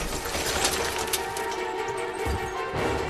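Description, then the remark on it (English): The driver's window of a parked bronze saloon car in a shopping mall parking lot is smashed with a pistol: a few sharp, bright crashing bursts of breaking glass over a steady, noisy wash, with no voices. “He approaches a parked bronze saloon car and, pulling his pistol, uses it to smash the driver's window.”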